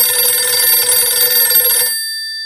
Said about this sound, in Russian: У меня зазвонил телефон.